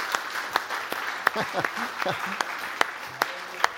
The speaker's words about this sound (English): If you love this IBC church, if you love this church, would you just give God a round of applause, of praise? Yeah, yeah.